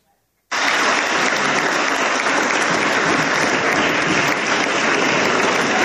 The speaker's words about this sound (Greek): Θερμό χειροκρότημα, αναγκαλισμοί.